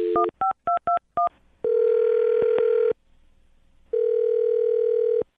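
A quick run of six or so electronic touch-tone beeps as a phone number is dialed, followed by a steady telephone dial or ringback tone that pauses briefly and then sounds again, clear.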